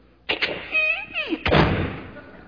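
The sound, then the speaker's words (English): A house's front door opens as a man goes out to the car: a couple of sharp knocks from the latch, a drawn-out squeaky hinge creak, then a heavy thud as it swings and settles, with no one talking. “Opens the front door.”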